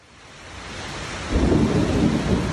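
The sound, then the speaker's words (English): A 5 o'clock summer thunderstorm on the east side of Orlando after a 93-degree day, filmed on a phone: steady rain hisses loudly while a deep roll of thunder swells in about halfway through and rumbles on powerfully to the end, with no voices. “Another 5 o'clock summer storm is ripping through the east side of Orlando.”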